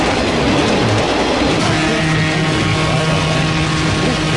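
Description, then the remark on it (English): A train rumbles past, a loud, steady roar of rolling noise with a low droning hum running through it and no voices. “He's driving that train down the highway.”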